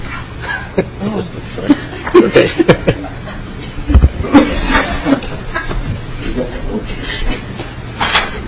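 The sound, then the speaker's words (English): Chairs scrape and creak in a busy flurry during a committee hearing, with scattered thumps and knocks over several seconds while indistinct voices murmur underneath. “Oh, those are our chairs. We sit in those.”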